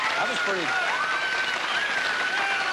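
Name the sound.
studio audience applause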